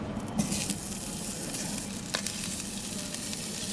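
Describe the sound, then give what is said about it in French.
An already poached fricadelle sizzles steadily in hot frying oil at market halls, being fried to crisp the outside: a dense crackling hiss that stays even throughout with brief louder pops near the start and middle. No one speaks. “Il faut juste la frire à l'extérieur, que ça soit bien croustillant. Donc l'huile bien chaude, il faut entendre que ça chante un petit peu.”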